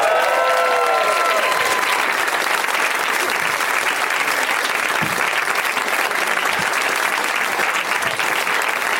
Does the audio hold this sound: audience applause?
yes